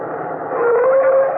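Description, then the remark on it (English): A steady, dense drone of bomber aircraft engines hums overhead in the dark at night, with a sustained tone that wavers slightly in pitch and swells a little louder as it continues. “Hear that? Bombers. Bombers up there in the dark.”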